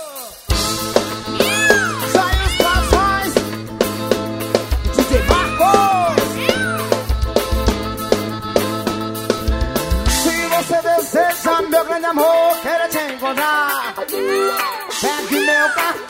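A lively forró band plays with accordion over a steady bass line and busy percussion, sliding meow-like vocal cries weaving through the loud, full mix.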